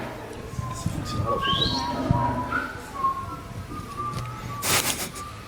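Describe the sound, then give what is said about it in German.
Several people whistle at once, wavering and sliding tones overlapping against a murmur of background chatter, with a short loud rush of noise near the end. “Ihr habt vorhin so schön gepfiffen, könnt ihr das nochmal machen?”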